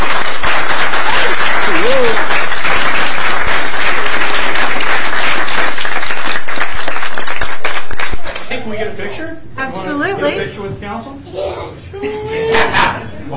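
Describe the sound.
A crowd claps loudly and steadily for about eight seconds, dense, applauding a person's recognition, before the applause stops abruptly and several people start talking.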